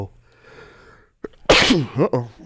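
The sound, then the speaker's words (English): Two sneezes: a loud sneeze bursts out after a brief quiet pause and a sharp intake of breath, trailing into a voiced, wavering tail. “Sneeze break.”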